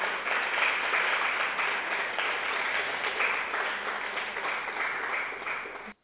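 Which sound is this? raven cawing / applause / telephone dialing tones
applause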